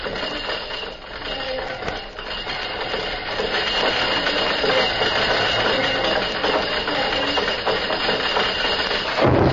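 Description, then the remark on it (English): A castle drawbridge is lowered at dusk for an arriving rider: a continuous grinding, rattling mechanical clatter with metallic clinks, holding steady and growing somewhat louder after the first few seconds, with no voices. “In a moment, the bridge is lowered into place.”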